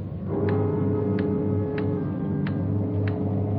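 loud ticking clock

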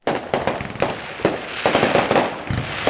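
fireworks exploding

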